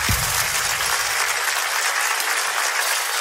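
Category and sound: crowd, applause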